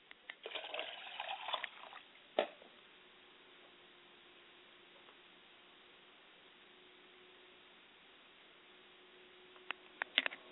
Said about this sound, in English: Ashe, I like to pour a glass of water to my Mother Spirit, Isaiah Ashe.